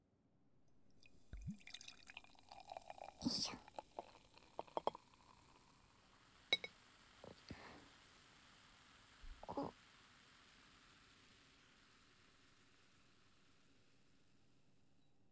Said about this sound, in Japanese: よし、じゃあビールで。よいしょ。今度こそは完璧に泡を作るからね。